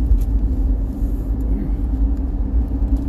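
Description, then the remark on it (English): A bus rumbles by in Asheville with a deep, steady engine drone that stays loud and even throughout, without any clear rise or fade. “Anyway, sorry, I saw a bus. I thought it was a tour bus trying to figure out who it was here in Asheville trying to hit the music scene.”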